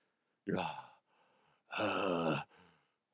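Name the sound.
imitated heavy breathing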